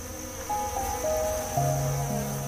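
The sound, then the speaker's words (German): A steady, droning hum of many bees inside a beehive hidden among leaves and blossoms, with overlapping buzzing tones that shift in pitch over a constant high insect whine, moderately loud with no talking. “Und das Summen verrät dir, was sich im Inneren verbirgt. Ein Bienenstock.”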